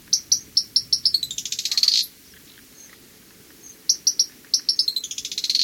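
Fork-tailed flycatcher calls: sharp, high chattering notes that speed up into a buzzy trill, pause for about two seconds, then start again. The calls are clear against a quiet background, with no voices.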